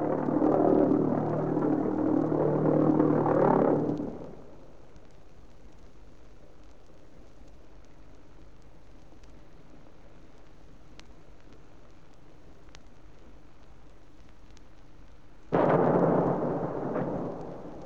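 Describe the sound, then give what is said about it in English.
The loud, rough droning engine of a V-1 flying bomb (doodle bug) runs for about four seconds and cuts off abruptly, followed by a long, near-silent pause of over ten seconds as it comes down, then a sudden heavy explosion that slowly rumbles away. “flying bomb, or doodle bug as we called the V-1, with its terrifying pause after the cutoff of the engine, before it came down and exploded.”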